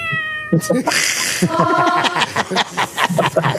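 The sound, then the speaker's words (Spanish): A person mimics a cat, letting out a drawn-out, whiny meow that wavers in pitch, followed by talking with a few chuckles mixed in. “Soy el gato.”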